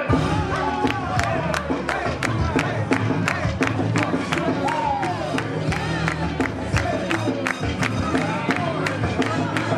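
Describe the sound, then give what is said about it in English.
A loud crowd cheers and shouts continuously at a Jukin hip-hop dance competition between the Beat Your Feet Kings and the Memphis Jukin Elite Team, with sharp rhythmic claps or beats punching through the roar at a steady pace throughout. “That's the Beat Your Feet Kings taking on the Memphis Jukin Elite Team in a competition of the hip-hop dance style Jukin.”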